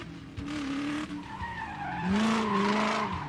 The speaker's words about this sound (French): Et à ce moment-là, sort d'une ruelle annexe au Tech Noir une voiture en trombe.